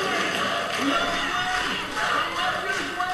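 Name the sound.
crowd chanting a name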